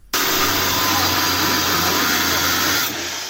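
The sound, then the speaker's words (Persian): Police cut loudly with a chainsaw to break into an illegal Bitcoin mining site in Iran, its harsh, steady motor roar kicking in abruptly and holding for a few seconds before easing off slightly at the end. “صدای اره‌برقی نیروی انتظامی برای ورود به یک محل غیرقانونی استخراج بیت کوین، یکی از انواع رمزارزها.”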